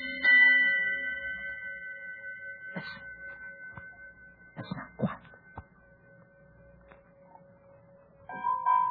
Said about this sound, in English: All through the night, the ship's bell aboard the Hero found its echo out in that freezing smother of fog. No other ship could be there. I know it. We all know it. Yet, the 6 bells in the first gray light of dawn.